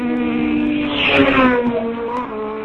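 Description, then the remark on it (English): A Suzuki rally car engine labours uphill with a steady, buzzing harmonic drone, its pitch rising and swelling louder midway before settling back into a strained, even note. No one speaks. “Let's listen to the Suzuki as well. Let's hear whether he struggles up the hill.”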